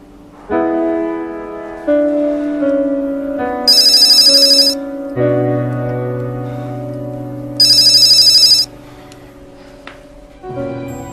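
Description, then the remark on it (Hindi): A phone ringtone plays loudly, a steady melodic electronic tune broken twice by short, bright trilling bursts, ringing on with nobody answering and no voices. “तुम फोन क्यों नहीं उठा रहे हो? कितनी बार तुम्हें फोन कर चुकी हूँ”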